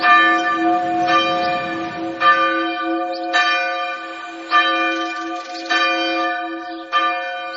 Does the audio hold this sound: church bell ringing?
yes